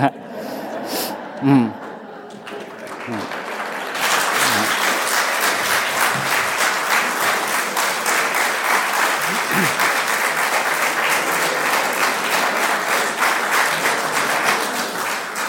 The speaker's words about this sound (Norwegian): Ja, du fikk en velfortjent applaus.